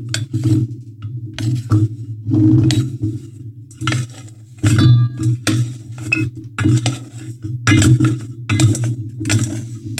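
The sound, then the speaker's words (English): Chow mein noodles and nuts are stirred in a metal pot to coat them with poured-over melted chocolate, with repeated scraping and clinking strokes, bursts of rattling over a steady low hum, in an irregular rhythm with no talking. “Yeah, your chow mein noodles all over that, and you can stir it.”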